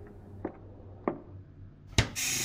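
Three soft, dull footfalls of someone walking through the dorms land at an uneven pace on a hard floor, followed by a sharper knock and then a steady rushing hiss that fills the end. No one speaks.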